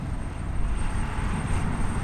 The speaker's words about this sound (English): That's a churning turbine, energizing one of roughly 40,000 wells here.